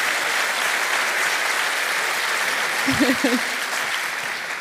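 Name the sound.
audience applause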